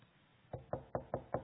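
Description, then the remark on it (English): Five firm knocks on a door in a quick, even rhythm, fairly loud, with no voices. “Maybe he's knocking on your heart.”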